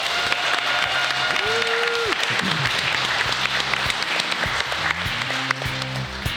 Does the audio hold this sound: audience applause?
yes